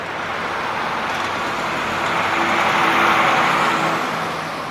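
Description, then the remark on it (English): A steady, dense roar of road traffic with engines and tyres blending into a continuous wash, swelling slightly louder midway before easing off, with no voices. “Heavy traffic.”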